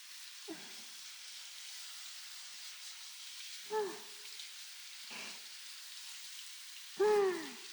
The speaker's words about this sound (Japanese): 全体的にしっとりしてきましたね。シャワーはこれくらいにしましょう。